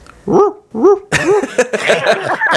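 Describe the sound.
A man on Radio Milazzo imitates a little dog, the kind carried in a bag, with his voice, giving two high yapping barks, then a rapid, louder burst of yips and whimpering barks crowding together.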